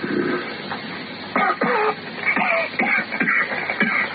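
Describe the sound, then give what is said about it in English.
Someone coughs repeatedly, a rough run of six or seven harsh bursts coming in irregular succession over a few seconds, with throaty rasps between them and no talking. “Hey, stop that coughing.”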